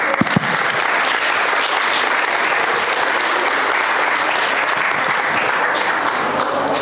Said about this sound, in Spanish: Ahora le toca el turno al Save Ofra, y la cooperativa se llama Ofra Artesanal. Un aplauso para ellos.